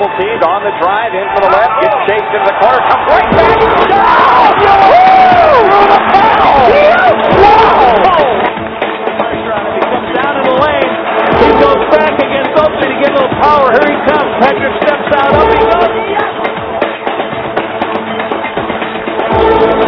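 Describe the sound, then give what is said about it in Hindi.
A large crowd claps and cheers loudly and continuously, voices shouting over the applause, with the noise peaking in the first several seconds and then settling to a steady roar. “अब जब बॉल डालेंगे ना, please everybody come on everybody, आप सब एक तरफ मैं एक तरफ, इसकी तालियां ज्यादा चलिए।”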